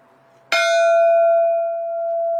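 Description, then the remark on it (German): A single loud bell stroke rings out, its bright metallic clang settling into a long, steady humming decay that lingers to the end. It is a memorial bell in Duisburg, Germany, tolled 22 times at 5 pm on 24 July to remember the dead and injured of the Love Parade disaster. “22 Mal läutet die Glocke. Immer am 24. Juli, Punkt 17 Uhr.”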